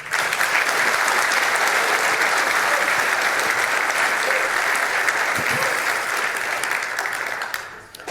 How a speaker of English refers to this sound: So let's give him an extra warm round of applause and welcome to the stage